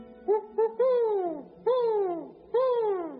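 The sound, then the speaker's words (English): A man imitates a great horned owl at night by a line of pine trees under the moon: two short hoots, then three long, drawn-out hoots that slide downward in pitch, each separated by a brief pause, loud and clear with no talking. “The sound of a great horned owl.”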